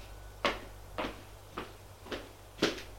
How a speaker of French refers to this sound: Je fais entrer, on ferme la porte.